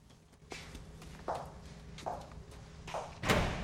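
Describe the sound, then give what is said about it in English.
Four evenly spaced footsteps approach as an agent comes in, then a bottle of water is set down on a table with a louder thump at the end. No one speaks. “an agent comes in with a bottle of water and puts it down.”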